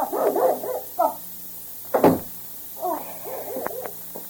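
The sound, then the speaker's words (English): A dog named Spotty, jumping, whimpers in short, high, wavering whines, lets out one sharp bark midway, then goes back to a string of pleading whimpers. No one speaks. “Come, Spotty. Stop jumping. You want to go out?”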